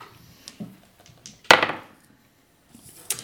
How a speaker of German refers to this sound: Würfel doch bitte mal mit Weird.